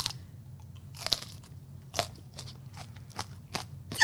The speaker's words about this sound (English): Chew, chew, chew. I like chili. I don't think it's that bad.